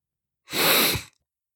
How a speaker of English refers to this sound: I'm sick as a dog on a log in a foggy old bog. I'm sick of being sick. I'm sick of being... Wait a minute. Achoo!